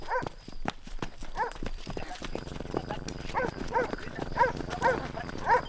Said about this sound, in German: Hörst du das? Hörst du den Hund bellen? Der Leute werden doch ständig irgendwelche Köter. Nee, das klingt aber irgendwie aggressiver.